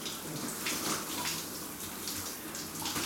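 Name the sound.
shower water running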